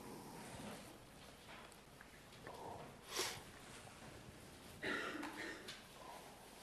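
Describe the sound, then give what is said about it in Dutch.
Soft, scattered paper rustling, with a few brighter crinkles standing out as a church audience turns many Bible pages at once to the Book of Jonah, low in level. “Heerlijk om wat geritsel te mogen horen als je hier staat, hè?”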